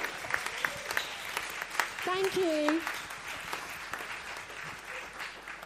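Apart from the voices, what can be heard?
audience clapping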